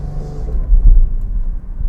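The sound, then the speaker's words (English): A car engine rumbles steadily as the car is driven into the city, with deep low-end droning that swells briefly louder midway through, like the vehicle pushing forward on the road. “Now, boys and girls, I've been driving this goofy car.”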